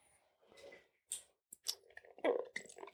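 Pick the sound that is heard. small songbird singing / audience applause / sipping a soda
sipping a soda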